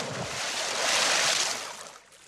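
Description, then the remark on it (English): A broad rush of sea water swells and surges, building to a loud peak before easing off, like waves churned up by a passing ship. No voices. “They fall in the water. The big ship passes over them.”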